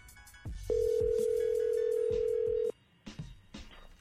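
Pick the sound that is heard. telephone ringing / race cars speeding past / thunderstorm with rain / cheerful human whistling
telephone ringing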